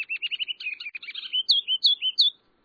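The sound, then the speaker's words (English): A ruby-crowned kinglet, a tiny olive-green songbird, sings alone: a quick run of thin, high twittering notes that builds into several louder, bright slurred phrases, clear, ending after about two seconds. “Most of the time, a ruby-crowned kinglet is a fraud with feathers, neither ruby nor regal.”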